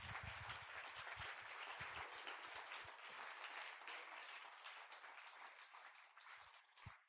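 A crowd applauds the Lord and a pastor steadily, a dense wash of many hands clapping at full volume, with a few heavier low thumps early on, then tapering slightly toward the end.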